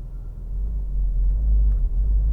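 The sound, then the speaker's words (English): A car in Canada coming to a stop to let a pedestrian cross the street, heard from inside as a steady low engine and road rumble that holds fairly loud for a couple of seconds, with no talking. “I just stopped to let a pedestrian cross the street because pedestrians have the right-of-way in Canada.”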